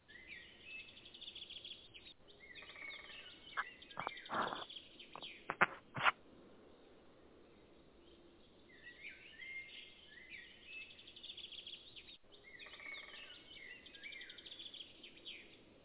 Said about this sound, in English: I was going to say, somebody got woodpeckers going on over there.